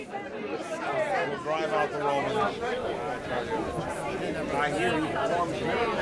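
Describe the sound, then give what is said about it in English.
A crowd entering a street murmurs and chatters: many overlapping voices form a steady, fairly loud babble that swells slightly at the start and holds throughout, with no single voice standing out. “Here comes the crowd now. If you listen, you can hear them.”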